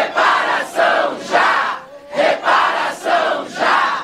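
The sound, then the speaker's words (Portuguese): A crowd of Black movement activists filling two committee plenary rooms chants slogans in support of a proposed National Fund for Economic Reparation and Promotion of Racial Equality: loud rhythmic bursts of many shouting voices rising and falling in a repeated cadence, with a brief pause midway before the chanting resumes. “Houve intensa mobilização de movimentos negros que lotaram dois plenários do corredor das comissões e manifestaram apoio ao texto por meio de faixas, cartazes e gritos de ordem.”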